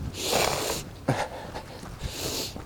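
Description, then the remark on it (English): Breathy nasal snorting and sniffling from a person running in cold weather: a long forceful snort, a short sharp sniff, then another drawn-out snort, with no talking. “There'll probably be lots of sniffling and snorting, and I hope you'll forgive me of such.”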